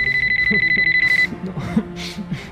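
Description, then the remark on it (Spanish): A mobile phone at home rings with incoming calls: a shrill, rapidly pulsing electronic tone for just over a second, then cuts off as a voice begins speaking. “vuelve a su casa, donde tras varias horas de llantos desconsolados, empieza a recibir llamadas en su teléfono móvil.”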